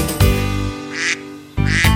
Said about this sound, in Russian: Однажды жарким летом решили спеть дуэтом лягушка и утенок.